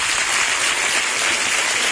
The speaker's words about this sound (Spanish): Gran ovación al descendiente